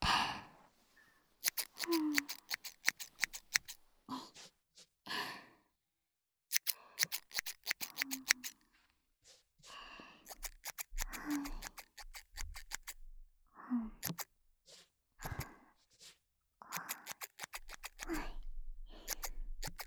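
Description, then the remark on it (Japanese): Crisp snipping of thinning scissors trimming hair and bangs in quick bursts of repeated cuts, with soft breathy sighs and brief pauses between the clusters of snips. “すきばさみって普通のハサミと違ってこのギザギザが面白いよね。”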